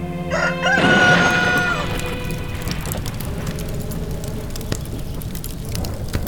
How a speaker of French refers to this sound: Un coq qui chante la nuit est un présage d'incendie.